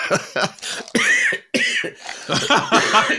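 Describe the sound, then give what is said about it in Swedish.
A loud burst of laughter breaks into a series of harsh coughs, several rough hacking bursts with brief gaps between them, and no speech. “Skratt följt av host.”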